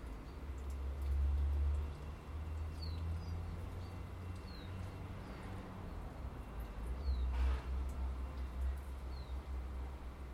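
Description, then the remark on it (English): A young blue tit hunting for flies gives a few thin, high, short calls at irregular intervals, faint over a steady low rumble of outdoor background noise, on an overcast, calm morning. “Oh, it's that tiny bird. Baby blue tit. Hunting for flies.”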